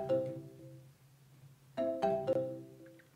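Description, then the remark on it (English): An electronic telephone ringtone for an incoming call from the US plays with no talking: a sustained tonal chime, then a quick run of three bright, layered notes that ring out and fade. “We have we've got a call. Ringing phone.”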